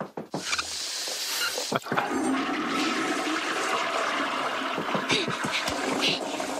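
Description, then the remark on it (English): A toilet flushes with a sharp click and then a loud, steady rush of swirling water draining clockwise, lasting several seconds with gurgling bursts near the end. “The fixtures, they're all draining clockwise, sir.”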